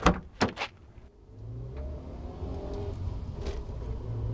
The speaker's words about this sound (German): Wütend und genervt stapfe ich aus dem Gebäude und steige in mein Auto.